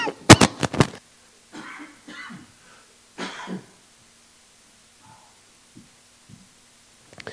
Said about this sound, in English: Try not to cough on you people. Excuse me. Anyway. I'm trying not to cough again. Hold on. But this time I won't cough in the mic. Uh-oh. Maybe I will.